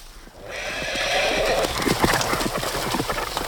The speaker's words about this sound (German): Als die Mädchen am Zaun standen und die Pferde riefen, kamen sie sogleich angetrabt.